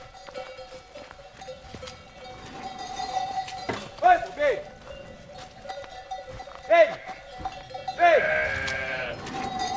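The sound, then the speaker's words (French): Several ewes from a flock of 130 bleat in short, wavering calls at irregular moments while a shepherd calls out to herd them to the left, in Saint-Michel-de-Dez, Lozère, France, over a steady outdoor background. “Mademoiselle les brebis, on y va? Allez à gauche.”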